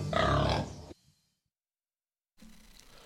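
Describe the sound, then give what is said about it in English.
A loud, rough pig grunt lasts just under a second and is followed by silence. A quieter, lower snorting grunt starts near the end. “I love all those pig grunts in there with the associating them with the media”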